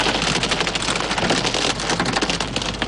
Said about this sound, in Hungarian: Budán Borsó nagyságú jég esett. Olyan jégeső esett, hogy egybefüggően hófehér volt minden. Hófehér!